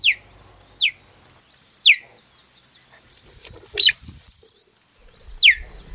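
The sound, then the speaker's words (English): A cheetah gives five high, bird-like chirps, each a quick downward-sliding squeak, spaced about a second apart with quiet gaps between, clear with no talking. “What's with the chirping?”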